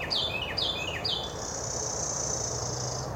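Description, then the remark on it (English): A bird chirps directly overhead in Franklin, Massachusetts, in three quick descending notes, followed by a sustained high trilling call, over a low background hum. “Yeah, even the birds are telling you, stay prepared.”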